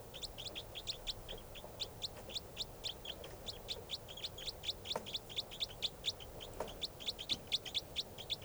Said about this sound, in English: That's the bird. With 3:05 responding. That's it.